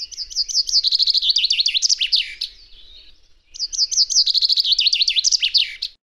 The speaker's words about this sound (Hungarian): Remélem, sokaknak ismerős volt a hang. Talán könnyű megjegyezni, nekem is ez volt az első madárhang, amit megjegyeztem madarász pályafutásom során.